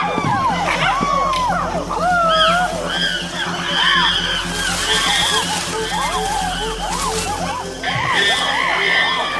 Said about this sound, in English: The attack is on. To intimidate their opponents, the aggressors scream and drum on buttress roots.